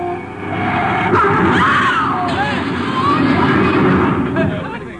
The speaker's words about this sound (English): Look out. Car coming out of that side street. Let them look out. You're going to hit.